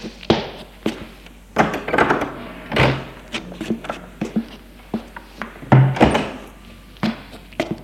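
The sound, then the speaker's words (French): An upstairs bedroom door is handled and opened amid a series of hollow wooden thumps, clicks and knocks, irregular and fairly loud, with no voices. “Il monte à l'étage et ouvre la porte de la chambre.”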